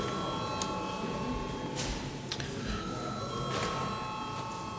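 A parliament registration bell, called for members to register before a break at 10:30, rings continuously and steadily for the whole stretch, a sustained metallic tone over quiet room noise with a few faint clicks.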